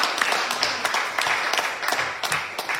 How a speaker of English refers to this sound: Man, that deserves a round of applause and praise to God, amen.